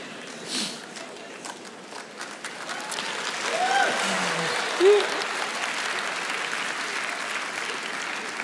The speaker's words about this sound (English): That's why it gets a clap.